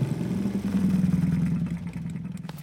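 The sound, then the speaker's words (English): A small motor scooter engine, ridden by a girl arriving, buzzes steadily, its revving hum loud and continuous before easing off and settling toward an idle at the end as she parks. “Shortly after Grammy left, Little Red came along, riding her scooter.”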